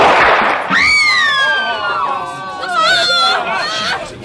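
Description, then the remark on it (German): A single loud gunshot from a firing squad execution bursts out at the very start, followed by a high, wavering wail from a voice and a murmur of people talking. “Aber der Kugel entgeht er nicht. Hernandez, Feuer!”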